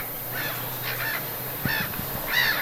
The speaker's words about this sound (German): Ich habe ein paar Möwen mitgebracht, hör mal.